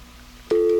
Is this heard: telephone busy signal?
yes